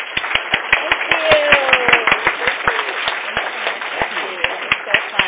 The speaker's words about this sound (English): I just want to give them, I'm going to give them a round of applause for us